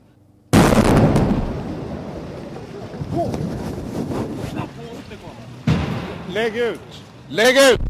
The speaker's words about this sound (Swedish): Ja, här är nu ambassadbyggnaden. Alldeles nyss hördes en våldsam detonation, och det brinner fortfarande.